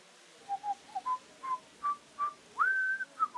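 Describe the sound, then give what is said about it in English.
Someone whistles a short, lilting tune, a run of clear pitched notes rising and falling with a longer held note near the end, fairly soft with no talking. “Dupin, are you whistling?”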